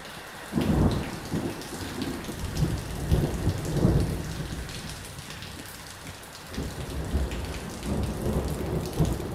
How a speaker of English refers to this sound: A thunderstorm rages east of Johannesburg. Rain hammers the corrugated iron roof of a small house in a bleak township.